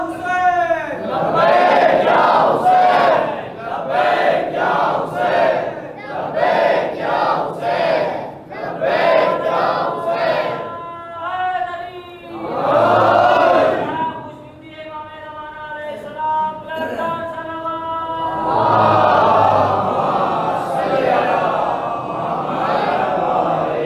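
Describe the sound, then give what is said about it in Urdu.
A large crowd chants a slogan in loud, rhythmic bursts, voices rising together in repeated call-and-response shouts, with a sustained, tonal chorus of many voices in the later stretches. “جب بھی نعرہ لگائیں نا تو ہم ہاتھ کیوں اٹھاتے ہیں؟”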